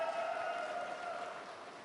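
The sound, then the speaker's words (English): An audience cheers and applauds for a band as it enters, in a steady, sustained roar of many voices that holds at an even level throughout. “All right, so let's put our hands together and give a wild, loud cheer for our band.”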